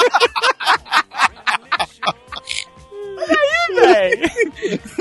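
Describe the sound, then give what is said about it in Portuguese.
A voice performs exaggerated fake orgasm moaning, opening with quick breathy panting bursts that swell into loud, warbling, drawn-out moans. “Devo fingir orgasmos?”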